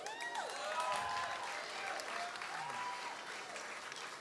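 A crowd claps steadily and densely for several seconds, with scattered whistles and cheers rising above the continuous applause at an even, fairly loud level.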